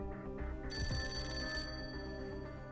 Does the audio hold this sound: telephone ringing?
yes